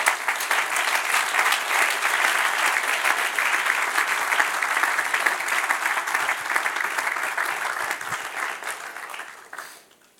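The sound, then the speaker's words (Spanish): An audience applauds God together in a sustained burst of dense clapping that holds steady for several seconds, then thins and fades out toward the end. “Dele un aplauso al que reina.”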